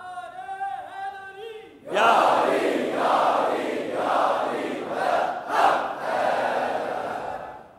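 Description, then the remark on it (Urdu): A single voice calls out a drawn-out cry, and then a large crowd answers with the Nara-e-Haidari battle cry, a loud, sustained roar of chanting voices that swells and surges for several seconds. “اور وہ نعرہ واپس دے دو جو عزیز بھٹی نے لگایا تھا اور جو 65 میں گونج رہا تھا پوری دنیا میں, نعرہ حیدری.”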